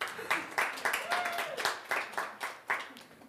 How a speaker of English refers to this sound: Who's working up there today? Yes, they deserve a hand clap.